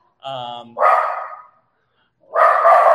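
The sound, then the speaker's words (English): A guard dog barks loudly: a whiny yelp leading into a harsh, drawn-out bark, then a short pause before another rough burst of barking. “My guard dog just went in full guard mode.”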